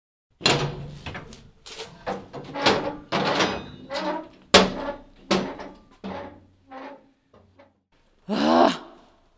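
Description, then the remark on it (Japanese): A key rattles and clunks in a lock of the Bikōsō building through a run of uneven knocks and scrapes, then the door groans open with a short creaking sweep. No one speaks. “はい、それでは鍵を開けます。”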